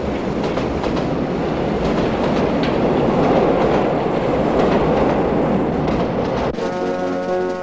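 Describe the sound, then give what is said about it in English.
An underground train pulls away with a loud, steady rumble and faint clatter of wheels on rails, then a sustained electrical whine takes over in the final second. “Akeem disappears on the tube as the lady on the platform silently watches her prince disappear into the night.”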